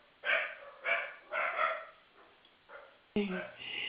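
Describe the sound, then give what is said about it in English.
Dogs bark at something outside, several sharp barks in a quick, uneven series, loud and distinct, followed by a burst of mixed noise. “Sorry, my boys decided they have to bark at something outside.”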